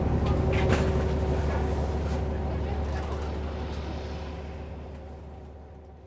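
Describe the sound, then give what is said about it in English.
Steady low engine rumble and road noise from inside a moving bus in Jeju, with a faint whine running underneath. The drone holds constant for several seconds, easing slightly quieter toward the end. “I'll wait till I get off the bus to tell you the tale of the guy I saw in the washroom.”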